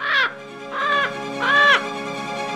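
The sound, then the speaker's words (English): A bird gives three loud, harsh, crow-like caws, spaced evenly about half a second apart, over a low steady background hum. “My tooth flies upwards, trailing the string behind it, and is snatched by a passing bird.”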